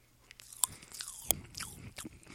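Chewing of popping candy, with two sharp cracks standing out among a steady run of faint fizzy crackles and wet mouth sounds, heard alone without talk.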